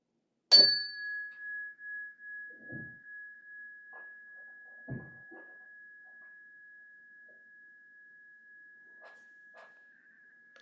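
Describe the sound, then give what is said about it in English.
A single meditation bell is struck once to begin a meditation session, giving a bright, clear strike that settles into one long sustained tone, slowly fading with a gentle wavering pulse over about ten seconds. “I'll ring a bell to start and three at the end.”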